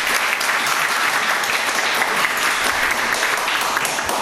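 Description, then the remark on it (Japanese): A crowd at a meeting claps steadily for about four seconds to approve next year's board of directors and officers, many hands blending into a dense, even wash of applause that stays at a constant loud level without voices. “それでは以上の、選考された会員を以上の選考された会員を次年度の理事役員に承認していただく方は拍手をお願いいたします。”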